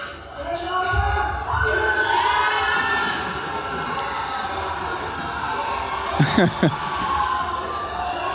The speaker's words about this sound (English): We had like 20 people in the lounge screaming at the TV for like a solid 80 minutes. I think we actually have a video of the moment the Springboks won.